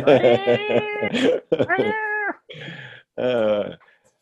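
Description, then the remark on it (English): A male house cat meows loudly indoors while it storms outside, letting out about four drawn-out, wavering meows in quick succession with brief pauses between them, one sounding rougher and more strained. “My cat is very, hey, come here. Let me show you.”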